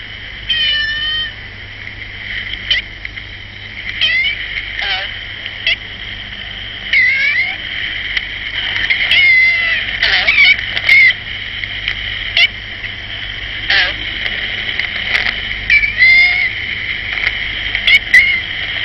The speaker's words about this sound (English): And one time we came across this cat, and it seemed to talk in half human tones. He recorded that on his portable tape recorder, and we've still got that for posterity.